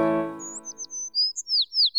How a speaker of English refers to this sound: Little yellow bird dancing round and round. Do the happy canary, come on, do it with me. Chirp, chirp, chirp, let's be happy and free.